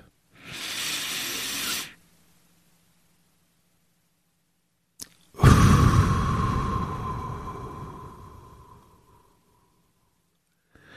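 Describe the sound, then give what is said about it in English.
A 4-7-8 breathing exercise done before walking into a store: a short, hissing inhale, a few seconds of held silence broken by a faint click, then a long, loud, breathy exhale that slowly fades out. “So going to walk into the store, do my 4, 7, 8.”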